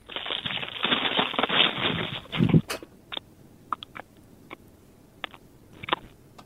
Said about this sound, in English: Is that a suck or is it a chew? No, it's definitely a chew. That's crunch, I reckon. That's crunch, okay. That's definitely crunch.